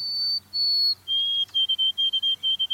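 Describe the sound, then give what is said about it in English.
Pure, clear whistled notes of a white-throated sparrow singing from a nearby evergreen: two long, steady high tones, then a lower tone broken into a quick series of short repeated notes, heard alone. “From a nearby evergreen come the pure whistled notes of a white-throated sparrow.”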